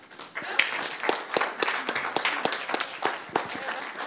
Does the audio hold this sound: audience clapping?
yes